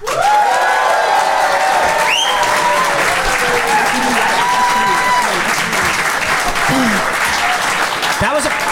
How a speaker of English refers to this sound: That was a pretty big ovation there. That was a pretty big ovation.